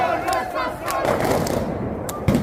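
A chaotic crowd outside the presidential palace in La Paz, Bolivia, roars and shouts continuously as armed soldiers storm the building and flares are lit, with a dense wash of voices and a few sharp cracks or bangs cutting through the din.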